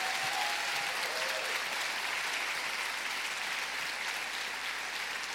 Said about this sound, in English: So shall we give them a massive round of applause?